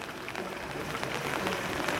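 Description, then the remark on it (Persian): Light drizzling rain falls steadily on wet ground, a soft, continuous patter with scattered faint drops ticking on the wet surface. No one speaks. “من دیدم هوا خیلی هوای خوبی، نمیدونم میبینید صداش آروم نم نم بارون رو میشنوید، آروم آروم بارون میزنه، کف زمین خیسه، این گلای خوشگل، فضا مثبت.”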